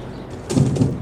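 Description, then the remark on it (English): A home garage's automatic door rumbles and rattles as it slides shut behind a parked car, a brief low grinding rush that swells after a quiet moment and carries on steadily. “The garage's automatic doors close behind him.”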